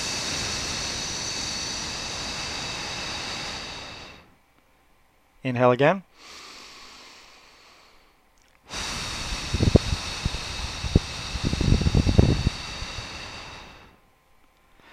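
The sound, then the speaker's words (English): A long, breathy hiss like a snake, made by breathing out after a deep breath to demonstrate the 'lung sound', held steadily for several seconds, then repeated after a brief spoken instruction and inhale; fairly loud, with soft rustling noises during the second hiss. “and in the article I described it as the sound of a snake. And that's really exactly what it sounds like.”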